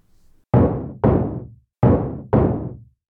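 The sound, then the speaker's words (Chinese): Four solid knocks on an office door at lunchtime, fairly loud, in two pairs with a short pause between them, each thud ringing out briefly in an otherwise quiet office. “那这个时间会是谁呢？请进，门没有锁哦。”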